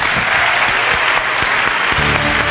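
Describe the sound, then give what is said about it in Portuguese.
A crowd claps steadily in applause for a man being thanked on a stage, a dense wash of many hands at an even, loud level throughout, with no voices standing out. “Obrigado e aplausos para ele.”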